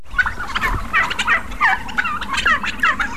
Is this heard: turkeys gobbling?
yes